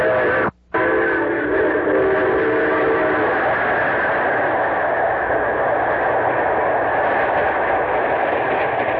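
A train roars past, its whistle sounding steady tones for the first few seconds before giving way to a loud, continuous rumble and clatter of cars, no voices.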